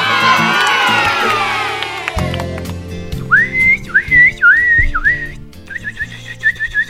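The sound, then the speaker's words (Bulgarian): After a burst of cheering crowd noise, a person imitates bird calls by whistling: four warbling, swooping phrases, then a string of quick, higher chirps, clear and fairly loud over a low background hum. “Ох, вече и птици ли ще имитираш?”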